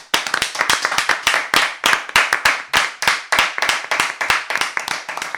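An audience bursts into loud, sustained applause, many hands clapping in a quick, dense patter that holds steady for about five seconds with no voices over it.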